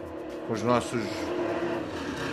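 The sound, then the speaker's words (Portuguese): A motorcycle with a loud, raspy modified exhaust revs briefly, its engine note climbing and falling within about a second, then fades into a steady rumble of background noise. “O cara arranca O cara arranca o quê do escapamento pra ficar fazendo esse barulho, velho?”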